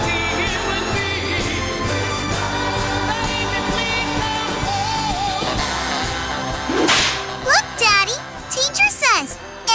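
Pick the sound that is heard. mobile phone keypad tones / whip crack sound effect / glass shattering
whip crack sound effect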